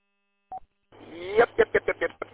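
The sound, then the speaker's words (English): A single short electronic beep, a low-battery warning chirp from a device with a dead battery, sounds once, followed a moment later by muffled talking over a narrow, phone-like line. “Heard a chirp in there. Sounds like a dead battery.”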